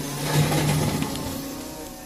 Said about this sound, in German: Reden wir nicht lange drum rum. Das hier ist ein Elektrobagger.